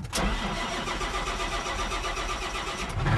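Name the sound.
tractor engine starting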